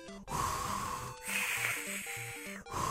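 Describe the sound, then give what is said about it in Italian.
A voice imitates heavy, wheezing breathing: long, loud rasping breaths in and out, one after another, over a faint stepping low tone pattern. “Allora, perché il respiro pesante?”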